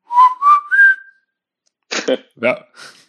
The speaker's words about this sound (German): Ich finde das immer noch richtig gut als Abgrenzung zur Werbung. Also ich pfeife jetzt einfach, glaube ich, werde keine Jingles vorbereiten. Ich werde jetzt grundsätzlich immer sagen, einfach in das Mikro pfeifen,